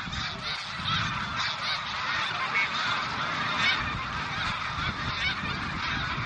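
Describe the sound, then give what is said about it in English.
A large flock of thousands of geese, flushed by a hawk, honks continuously overhead in flight over Vermont, dense overlapping calls forming a steady, moderately loud chorus with no speech. “Did you know that when they fly in a V, a flock of geese adds 71% greater flying range than if they fly alone?”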